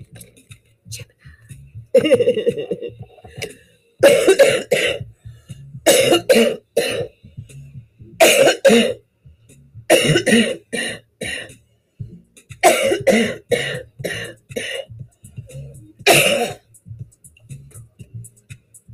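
Repeated harsh, chesty coughs from a person with the flu come in loud bursts, several clusters of two or three hacks each with short pauses between, otherwise quiet.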